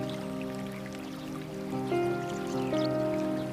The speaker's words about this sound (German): In der Ferne hörst du das liebevolle Plätschern eines Baches.